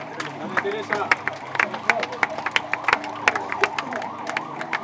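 An audience at a catechesis gathering applauds a woman steadily for a few seconds, a dense patter of sharp, irregular claps with wavering cheers or whistles rising and falling underneath at moderate volume.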